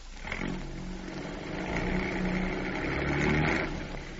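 A steady engine drone with a low rumble and a faint higher whine holds for several seconds, swelling slightly as a car drives against the bumper of a stalled car, pushing it over to the curb; no one speaks.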